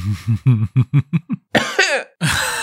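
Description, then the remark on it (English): A quick run of about seven short, rhythmic bursts, like small coughs or throat-clearing, followed by two louder, harsher coughs, with no speech. “Very adorable. Very adorable cough.”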